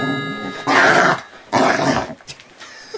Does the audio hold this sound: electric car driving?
no